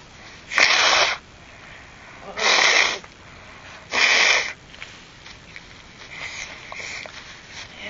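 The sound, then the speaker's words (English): A child blows their nose into a Kleenex tissue three times, each a short, forceful, breathy honk, separated by brief pauses, followed by quiet rustling. “I'm going to get you a Kleenex. You just sound a little sniffly. Do you want to blow your nose?”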